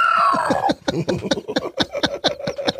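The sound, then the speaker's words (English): A man's voice imitates wild hog grunts, a rapid series of low, rough, guttural bursts in a steady rhythm after a brief opening squeal. “Yeah, just do wild hog noises.”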